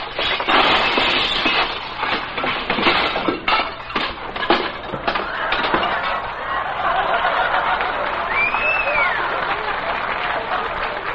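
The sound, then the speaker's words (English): A stack of dishes, dropped by someone washing dishes in a restaurant kitchen, crashes and shatters, with a loud burst of clattering, smashing crockery for several seconds that trails off into a steady rattling wash of settling debris. “Wait until Mr. Melonhead sees all those broken dishes.”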